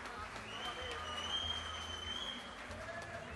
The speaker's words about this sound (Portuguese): Salva de palmas.